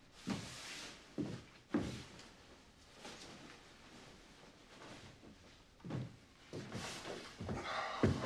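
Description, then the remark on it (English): A refrigerator door in a house kitchen is opened at night, with a few dull clunks and thumps from handling it, spaced out over several seconds, moderately loud, with a faint hissy background. “He opens the fridge to find a wad of evidence cash sitting in front of a case of beers.”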